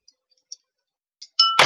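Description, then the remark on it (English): A few faint light taps, then a pencil drops and strikes a glass with a bright, ringing clink, followed by a louder clattering knock, with no talking. “No, you probably just had me drop it and hit a glass.”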